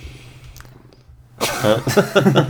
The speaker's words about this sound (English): Penny, get out of here. It's just the cat, everybody.